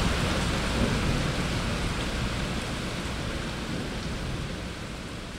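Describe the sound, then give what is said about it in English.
A heavy downpour in a city, as the heat breaks after very hot days, roars steadily, a dense wash of rain with a deep rumbling low end, easing only slightly toward the end. No voices. “We'll just get these kind of incredible downpours in this city.”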